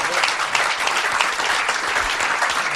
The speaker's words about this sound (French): On peut applaudir en tout cas Fibre qui s'est ouvert à nous.